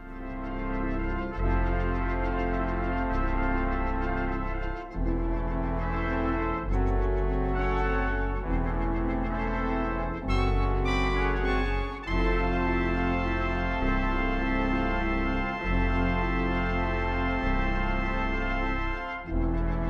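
Minimalist orchestral documentary film score: deep, sustained organ-like chords and low bass shift in slow, repeating steps every second or two, steady and loud throughout, with no voices.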